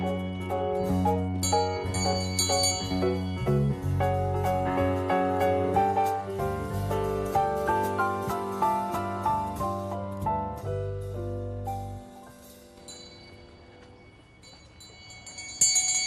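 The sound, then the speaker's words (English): A college handbell choir plays a steady melody on handbells of many different notes, many clear ringing notes overlapping and sustaining into one another, fairly loud, thinning out toward the end with a bright final strike. “Their bells are somewhat different from this one, but I'll take this one with me anyway.”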